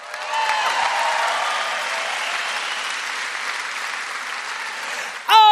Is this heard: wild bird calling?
no